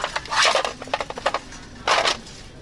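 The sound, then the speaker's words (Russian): Party tableware with an American flag design being handled: quick clattering and rustling clicks in an uneven run, ending in a louder burst of clatter, with no talking. “Посуда, партийная посуда.”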